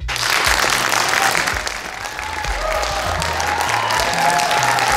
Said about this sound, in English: The applause, I assure you, is not for me. It was for former ambassador to Ukraine, Marie Yovanovitch, from spectators in the gallery, as she completed her hours of testimony in today's impeachment hearings